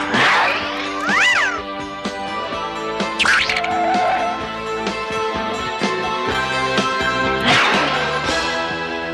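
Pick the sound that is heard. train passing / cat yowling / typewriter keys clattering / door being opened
cat yowling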